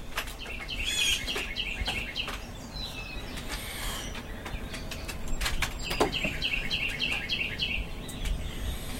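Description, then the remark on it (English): A blue jay calls in two quick runs of short, repeated, mid-high notes, one early and one late, over a steady rustling background with a few sharp clicks. “That is a blue jay.”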